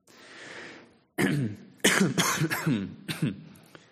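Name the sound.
coughing and throat clearing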